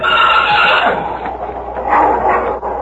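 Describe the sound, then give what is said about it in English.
A wolf inside a shed, in front of a colt, snarls and growls without pause. It is a harsh, rasping sound that stays loud throughout, with a few sharper yelping bursts toward the end and no talking. “Yeah, listen to that. That's a wolf.”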